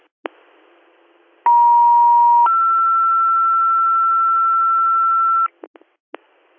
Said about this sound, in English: You all set on tones, or are you going to need additional tones? Additional tones for a driver, please.